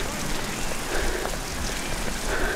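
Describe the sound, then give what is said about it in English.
Heavy rain pours down steadily during a Limerick hurling match, with a gale-force breeze, a dense, continuous hiss of drops with no pauses, fairly loud and unchanging throughout. “The rain is suiting Limerick. It's absolutely bucketing down.”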